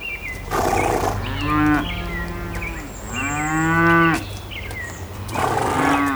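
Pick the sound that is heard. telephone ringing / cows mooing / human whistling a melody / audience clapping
cows mooing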